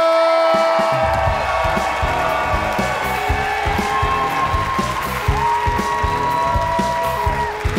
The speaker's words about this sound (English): Keep that applause going for your final comedian from New York.